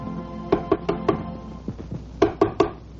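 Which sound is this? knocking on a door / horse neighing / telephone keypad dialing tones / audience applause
knocking on a door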